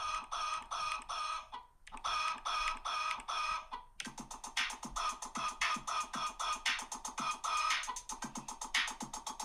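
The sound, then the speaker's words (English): Backyard chickens cluck steadily, a dense flurry of overlapping clucks and squawks running without pause, with a brief lull near the start. “Backyard chickens for him.”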